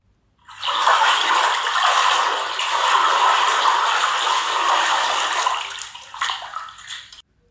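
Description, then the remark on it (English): Water rushes and churns steadily in a basin for several seconds, a loud, continuous splashing that tapers off with a few choppy sloshes at the end. “This basin's like an ocean. It has a very choppy motion.”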